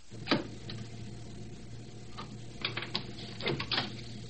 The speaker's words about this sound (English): He marks the spot for the cut. You'll hear him dropping the pencil.